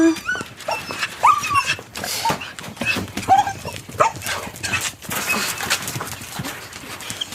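Three dogs at their home give short barks, yelps and whines while their paws scuffle and patter around, a busy, restless stretch of animal noise with no one talking.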